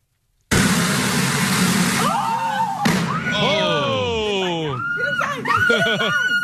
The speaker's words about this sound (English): It was so loud that it woke someone up, and they started filming. So the fire was going on. They started filming. As soon as they start filming, the truck explodes.